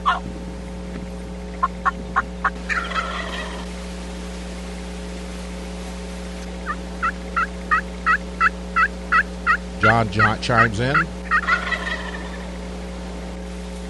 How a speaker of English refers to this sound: Two gobblers that came over a mile across a green rolling hills.